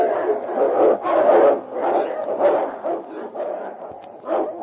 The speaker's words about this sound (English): Meantime, Preston and the constable hurried along the trail and finally came within view of the struggle in which King and Whitey fought side by side against great odds. Holy smoke, Sergeant, look there. The wolf pack's attacking King.